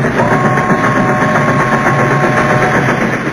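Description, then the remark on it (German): A train rumbles past in a loud, steady roar of heavy mechanical noise and vibration, with a faint high tone running through it and no speech. “Wo kam denn nun wieder dieser Zug her?”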